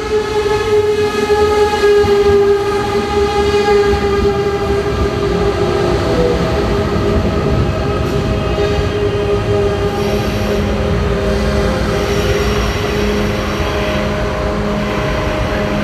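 An ICE high-speed train rumbles loudly through the railway station in Coburg, with sustained tonal whine and squealing wheels over a steady mechanical roar that stays strong throughout.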